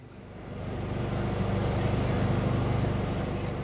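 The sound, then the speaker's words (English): A large blue and white motorhome, a mobile health clinic, idles at the edge of a tree-shaded park during a health fair. Its engine gives a deep, continuous rumble with a low droning hum that holds constant throughout, no voices over it. “There's also a vehicle that looks like a large blue and white motorhome, idling on the edge of the park.”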